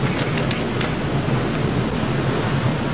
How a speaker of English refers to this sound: Oh. Can you hear that? Waterfall. Exactly.